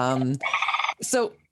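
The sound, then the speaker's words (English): A loud, brassy trumpeting bird call in three quick bursts: a low harmonic honk, a buzzy rattling middle stretch, then a rising and falling bugled note, heard alone. “So that beautiful trumpeting sound, is that one of the louder bird calls, or is there something special about their anatomy that allows the sound to travel so clearly?”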